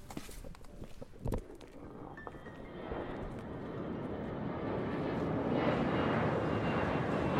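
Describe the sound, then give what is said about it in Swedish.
A jet engine roar at Landvetter Airport swells steadily into a broad, loud rumble, with a brief thump and a few scattered footsteps near the start; no one speaks. “20 år tidigare, år 2003, står 2 förväntansfulla 18-åringar redo på Landvetter flygplats.”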